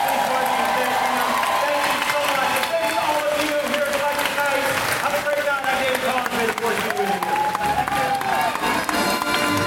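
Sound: audience applause and cheering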